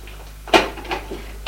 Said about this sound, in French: Après avoir lu, elle fouille dans les tiroirs.